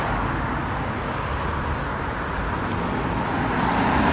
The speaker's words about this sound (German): Mal kurz über die Straße hier rübergehen, wenn es dann der Verkehr zulässt.